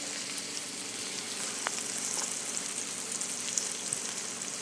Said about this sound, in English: All right, so that's the sautéing onions and celery for the stuff.